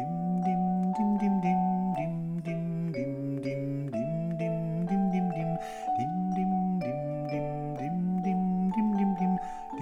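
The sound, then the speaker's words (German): Voices sing a steady melody without lyrics on the single repeated syllable "dim", imitating a ringing bell, with short evenly paced notes that rise and fall, loud, with no other sounds. “Währenddessen probieren wir das Lied einmal ohne Text auf dim wie eine Glocke zu singen.”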